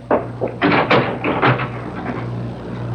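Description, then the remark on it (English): A door opens and shuts as someone lets themselves out, with a cluster of knocks, rattles and a latch click, over a steady low background hum. “Don't bother to come to the door. I'll let myself out.”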